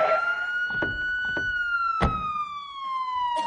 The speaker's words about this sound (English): Good heavens, there's a police car coming.